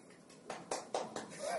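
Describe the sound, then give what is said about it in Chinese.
A few hand claps in a steady, evenly spaced rhythm, fairly soft and sharp, with faint voices murmuring underneath. “喂，有人拍手啊。”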